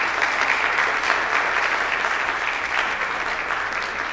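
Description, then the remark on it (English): A church audience applauds to welcome a returning visitor, a steady, dense clapping that holds at an even loudness for several seconds, with no voices heard over it. “Would anyone else like a special introduction and applause?”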